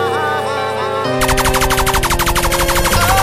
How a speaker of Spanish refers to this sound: Se dan la vuelta y van sonriendo, gritando triunfo por la escalera. Cuando de pronto suenan disparos y balas llegan.